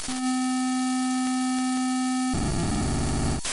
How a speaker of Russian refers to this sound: С технической точки зрения сигнал представлял собой длинную колбасу нулей и единиц, эдакий зашифрованный код, транслируемый в радиоэфир. Этот сигнал можно было даже послушать.